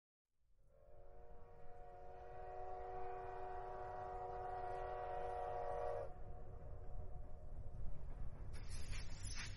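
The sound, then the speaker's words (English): A train whistle blows in one long, loud, steady blast for several seconds over a heavy rumble of rolling wheels, which keeps going after the whistle stops. “And I don't have a button for the train, so I'm going to have to add that in.”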